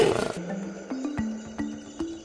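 A big lion lets out a deep, rumbling roar that opens with a harsh burst and settles into a sustained, wavering growl, fairly loud with no other sounds around it.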